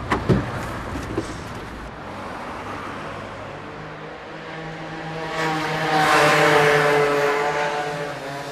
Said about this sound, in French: Bah, tiens, justement, voilà leur camion. Voilà, le camion arrive chargé, il y a le matelas, le sommier, la machine à laver